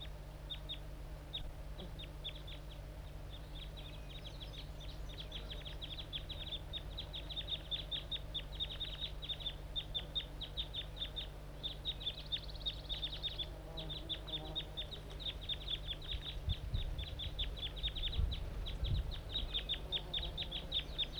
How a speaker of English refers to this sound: The wild bird's probably the loud one. He's calling too much.